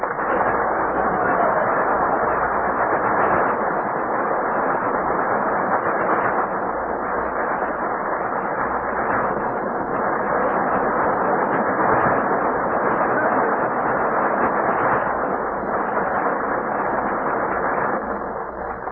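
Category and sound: crowd, audience applause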